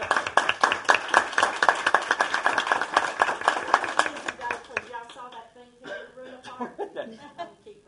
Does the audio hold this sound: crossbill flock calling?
no